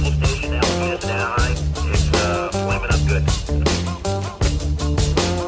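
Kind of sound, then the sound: animal, dog barking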